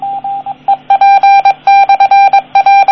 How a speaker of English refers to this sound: That was the repeater calling back with its call sign. I don't know the Morse code for that, but I would believe it's the call sign for that repeater, which is some variation with a 9 in it for my designation, but that's just it calling.